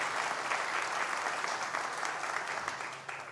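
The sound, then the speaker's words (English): Scattered, subdued applause from a group of people at St. Philip's on a Sunday morning, a steady patter of claps at low volume throughout, sounding thin, with no talking. “If I would, do I hear a faint clap?”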